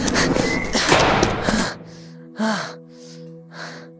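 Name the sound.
door banging shut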